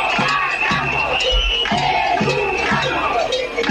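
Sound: protest crowd chanting slogans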